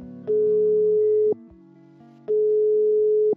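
Two long, steady telephone ringing tones of an outgoing call to a friend, each lasting about a second with a pause between, a single mid-pitched hum with no voices.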